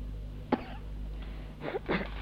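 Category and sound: human body sound, a woman coughing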